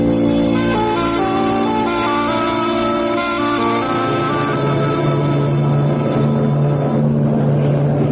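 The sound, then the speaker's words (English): A large cruise ship's engines drone steadily at sea, a loud, continuous low rumble layered with humming tones that shift slightly midway, with no voices. “Passengers disembarking for St. Martin will please gather at the gangplank on the boat deck.”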